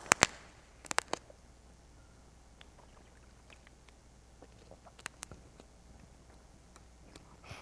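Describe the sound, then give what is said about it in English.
Someone takes a sip of a drink in near silence: a few sharp clicks and taps of a cup at the start, then soft, faint slurping and swallowing ticks scattered irregularly, with no talking. “Let me take a sip here.”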